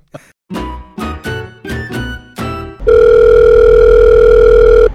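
A telephone call placed at 11 at night: five quick, separate electronic tones in a row, then a loud, steady ringing tone held for about two seconds, with no voices.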